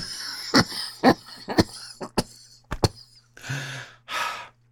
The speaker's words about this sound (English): A little cough sensation.